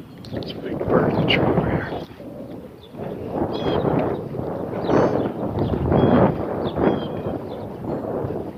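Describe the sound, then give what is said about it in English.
A morning breeze blows outdoors during a run, making a steady low rumbling whoosh that swells and eases in soft gusts for the whole stretch, with no clear sounds standing out above it. “There's a breeze. Breeze actually feels good now.”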